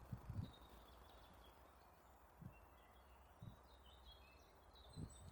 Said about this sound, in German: In der Hoffnung, dass man auch das Vogelgezwitscher hört. Bekanntlich nehme ich am liebsten meine Folgen mobil auf. Bekanntlich gehe ich dafür am liebsten mit meiner Tochter umgeschnallt in die Trage in den Wald.